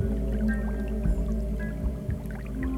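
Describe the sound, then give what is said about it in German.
A small brook in a forest babbles softly and steadily, a continuous low trickle of water with occasional faint splashes and no voices. “Und du hörst das leise Plätschern des kleinen Baches.”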